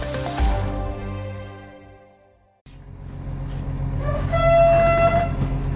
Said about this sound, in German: Schnellzug Nummer 889 hat den Hauptbahnhof Vilnius in Litauen pünktlich um kurz vor sieben verlassen. Ganze drei Waggons ist der Zug lang.